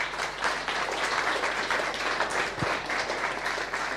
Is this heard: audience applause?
yes